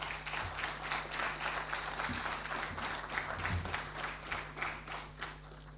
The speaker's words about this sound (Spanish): Seguidamente, las palabras del diputado nacional Pedro Ortiz Torres, presidente de la Comisión de Defensa Nacional, Seguridad, Inteligencia y Orden Interno de la Honorable Cámara de Diputados. Le recibimos con un fuerte aplauso.